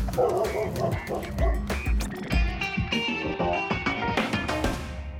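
A dog barks repeatedly, short sharp yips mixed with high, whining whimpers, loud and insistent throughout with hardly a pause.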